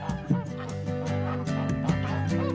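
A flock of geese on a farm honks in a steady, overlapping chorus, with repeated nasal calls piling over one another and no pauses.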